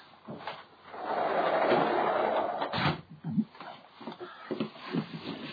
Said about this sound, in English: Just going to shut my patio door here, brethren, because we've got a dog barking out there. Just a sec.